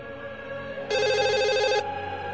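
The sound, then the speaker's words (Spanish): A telephone rings once with a rapid, warbling electronic trill lasting about a second, loud over a steady background hum, with no voices. “¡Teléfono! Atiende.”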